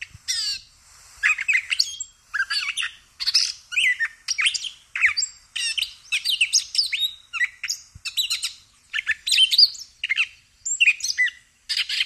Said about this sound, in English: occasionally we get the opportunity to see the source, which is a catbird, or a gray catbird